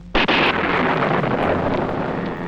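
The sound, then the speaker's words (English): A sonic boom from a supersonic aircraft: a sudden loud double boom cracks out, then rolls into a broad, rumbling wash of noise that slowly fades. No voices are heard. “Flight speeds like this produce a sonic boom, and there's nothing the pilot or anyone else can do about it.”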